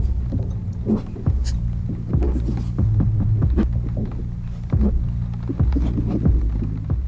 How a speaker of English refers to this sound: As the camera descends down the hallway towards this source of red light, we hear an untraceable whooshing, muffled footsteps, a baseline resembling a heartbeat, disembodied breathing, and the sound of drips.